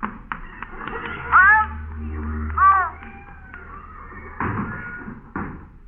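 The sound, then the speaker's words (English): A boxing cat meows twice in loud, drawn-out yowls, followed by a couple of dull thumping knocks over a low background rumble. “It's a boxing cat.”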